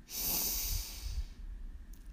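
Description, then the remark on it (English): A long, deep inhale drawn through the nose, airy and hissing, swelling over about a second before tapering off, fairly quiet with no talking; a deep breath from the bottom of the belly taken during a meditation. “We begin by taking 3 deep breaths from the bottom of our belly.”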